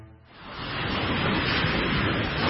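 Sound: ocean waves washing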